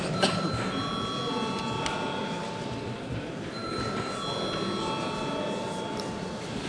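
A loud electric bell rings continuously for several seconds in a parliament, called before deputies vote on a bill in its third reading; its steady metallic clatter holds a constant tone with faint murmur underneath.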